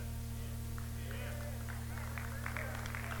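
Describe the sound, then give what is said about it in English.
Scattered audience clapping, a loose patter of hand claps that thickens toward the end, heard faintly over a steady electrical hum. “Now you clapped on that one, you're going to run me out of town on this one.”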